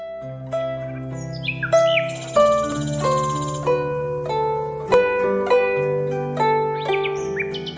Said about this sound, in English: we hear songs about songbirds as they tune up for the mating season, and some English bird song as well.